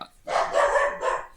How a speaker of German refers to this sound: Hallo Hund. Nun. Heute mit Hundeeinlage.